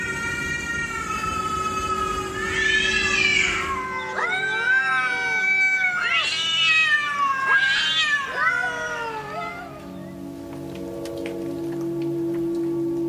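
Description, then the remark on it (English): Neighborhood cats yowling at night, making the noises they make before fighting or mating, in long, wavering, rising-and-falling wails, several drawn-out cries overlapping in a tense standoff, loud over a steady background hum. “The other night, some neighborhood cats were making those noises they make when they're either getting ready to fight or get frisky.”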